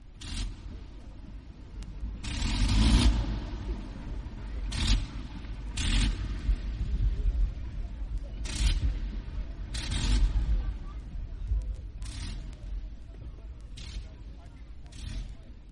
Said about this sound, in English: So you slowed it down as you taxied out by blipping. And coming into land, you'd exactly the same thing. You'd hear these things coming into land, stopping and starting and stopping and starting, exactly the noise you're hearing now.